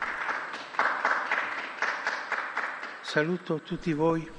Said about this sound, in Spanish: Un aplauso al nuevo Beato.